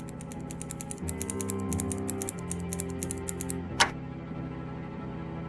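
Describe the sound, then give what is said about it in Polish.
A time bomb, its fuze just armed, ticking in a fast, steady, sharp rhythm over a low humming drone. The ticking stops partway through, followed by a single sharp click, while the drone continues. “Bomba już tyka.”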